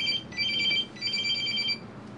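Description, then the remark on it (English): A cell phone rings with a bright electronic trill, two bursts separated by a short pause, moderately loud over a low, steady background rumble, in a film scene where a female investigator taking care of a body gets a call on her cell phone. No one speaks. “She's sort of taking care of the body and she gets a phone call on her cell phone.”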